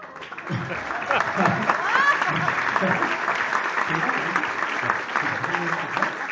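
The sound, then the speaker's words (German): A crowd applauds steadily to welcome a guest coming out, a dense, continuous patter of many hands clapping at even loudness for several seconds, with a brief whistle rising above it and faint voices mixed in. “So, begrüßt Sie mit einem herzlichen Applaus.”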